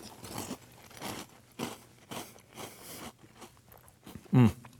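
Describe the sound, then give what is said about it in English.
Repeated crunching of Cap'n Crunch cereal being chewed with milk, a steady series of loud, bright crunches about every half second, with one heavier bite near the end. “This is the healthy part of the meal, of course. You know, some milk, some solid.”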